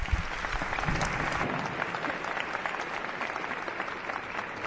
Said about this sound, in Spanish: tenemos más invitados esperando, un clásico que siempre está con nosotros en estas aventuras, Lorenzo Fernández Bueno, para quien nos pido un aplauso, un gran aplauso.